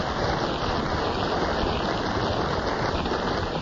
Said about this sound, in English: So that resounding round of applause, Maureen, shows that they appreciated your little dissertation on the theatre of the absurd.